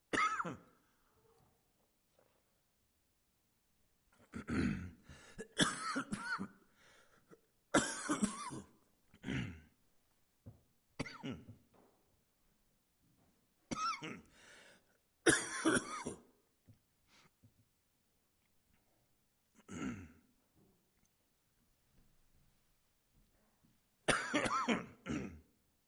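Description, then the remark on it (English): A person coughs and clears their throat repeatedly in short, harsh bursts separated by pauses of near silence, fairly loud, interrupting a reading of a Bible passage, with no talking in between. “Thank whoever put these cough drops up here.”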